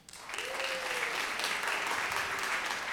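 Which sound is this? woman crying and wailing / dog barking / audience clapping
audience clapping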